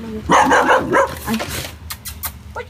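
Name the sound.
dog barking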